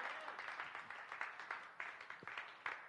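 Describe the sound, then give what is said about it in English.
A crowd claps for the Lord in a dense, steady patter of many hands, with a few sharper individual claps standing out, sustained throughout at moderate volume with faint voices beneath. “Can you clap for the Lord?”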